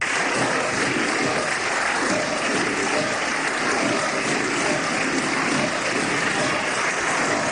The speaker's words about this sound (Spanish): Estos están aplaudiendo.